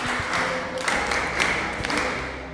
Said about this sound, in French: Applaudissez pour notre ami.